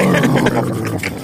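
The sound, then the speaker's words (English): A man's voice growls out a loud, rumbling roar, imitating a revving engine that sounds like a lion, lasting just over a second. “Motherfucker sound like the Lion Hood up, the Lion King up under the hood.”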